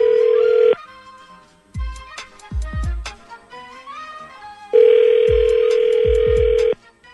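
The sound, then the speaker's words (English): A phone line rings out on an outgoing call placed by the Buzz Morning Show radio programme on 98.6: two long, steady buzzing ring tones separated by a pause of several seconds, with low thumps and faint clicks in between. No one speaks. “and then we'll call him when we come back”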